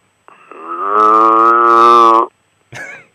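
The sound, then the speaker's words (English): A cow lets out a long, loud, drawn-out moo lasting about two seconds, followed after a brief pause by a shorter, rougher moo. Clear, with no talking. “Your neighbors have, on both sides, they have cows.”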